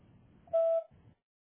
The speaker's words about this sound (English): Please leave a message after the tone and we'll return your phone call as soon as possible.